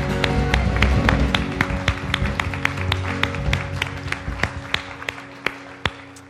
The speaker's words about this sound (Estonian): Anname Issandale ühe aplausi. Halleluja! Halleluja!